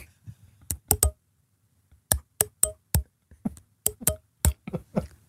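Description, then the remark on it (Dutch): Long fingernails flick across the teeth of a small comb, making crisp clicks in irregular bursts and short runs with brief pauses between, and no voices. “Ik heb hier ook een kammetje. Dan ga ik overheen met mijn lange nagels.”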